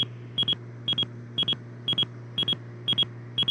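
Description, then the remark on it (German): An aircraft traffic alert device beeps in quick high-pitched pairs, repeating steadily about twice a second over a constant low hum, with no one speaking. “Leute, warte mal, da ist unser Flugzeug da, jetzt piepst es gerade.”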